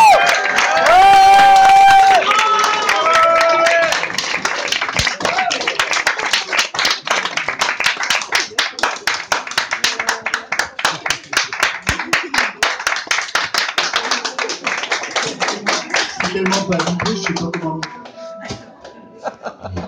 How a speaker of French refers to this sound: Une de nos traditions, c'est que lorsque quelqu'un fait une goguette pour la première fois de sa vie, on l'applaudit deux fois plus fort. Alors on va applaudir deux fois plus fort